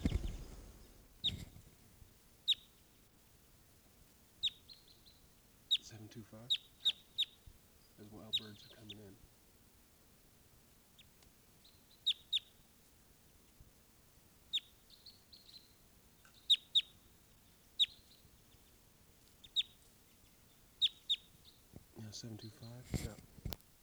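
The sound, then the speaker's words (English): Red crossbill type 2 flight calls from a crossbill in a ponderosa pine off a camp: a scattered series of short, sharp, high chip notes repeating irregularly over quiet background, with a few low muffled bursts of handling noise in between. “There's a crossbill right here off the camp in a ponderosa pine looking down.”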